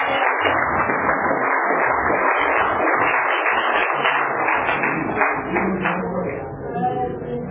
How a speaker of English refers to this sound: Okay, everybody, give a nice warm round of applause for our main speaker